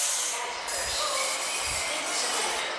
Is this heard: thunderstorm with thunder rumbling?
no